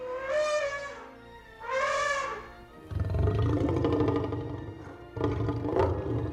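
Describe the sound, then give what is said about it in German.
The Jurassic Park T-Rex roar, made by combining elephant and lion sounds: two high, trumpeting blasts with bright harmonics, then a long, deep, rumbling roar and a final rising growl, loud with no speech. “Ich weiß zum Beispiel, dass es bei dem T-Rex in Jurassic Park Laute von Elefanten und von Löwen sind, die irgendwie kombiniert worden sind.”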